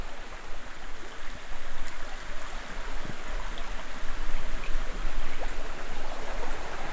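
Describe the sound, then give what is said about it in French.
A small river flows steadily, its water rushing and bubbling in a continuous wash of sound with no voices. “la forêt, le lac, la petite rivière.”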